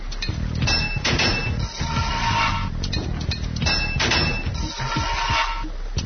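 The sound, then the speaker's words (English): Metallic hammer blows drive a valve into place: a handful of sharp, ringing clangs spaced a second or so apart over a steady low background hum, with no talking. “So I just hammered it in.”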